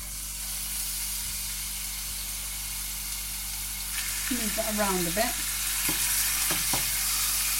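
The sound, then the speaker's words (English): Smallish pieces of chicken thigh sizzle and crackle in hot oil with a steady, bright hiss, joined by a few scraping stirs. A voice speaks a short phrase midway under the frying. “Okay, now what I'm going to do is I'm going to pop the chicken in there.”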